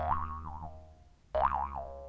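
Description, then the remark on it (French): Two springy cartoon boings of bouncing, each a wobbling, warbling twang that decays over about a second, the second starting abruptly after a short pause. Loud, with no voices. “Après plusieurs rebonds,”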